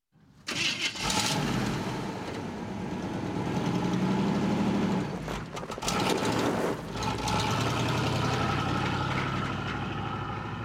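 A car engine turns over and catches, then settles into a steady, rumbling idle with a mechanical whir. It briefly dips and surges a couple of times, with no voices.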